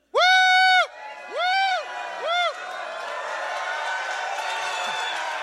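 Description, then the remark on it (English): A church audience erupts in yelling and shouting praise to the Lord: three loud, rising whoops, the first long and two shorter, then a steady roar of many voices cheering together. “Just start yelling and then yelling and then yelling and praising the Lord and yelling.”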